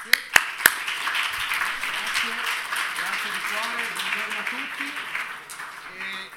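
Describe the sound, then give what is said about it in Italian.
Steady audience applause welcomes a speaker being given the floor, filling the whole six seconds, a dense, even patter of many hands after a few sharp opening claps, with faint voices murmuring underneath. “Un applauso.”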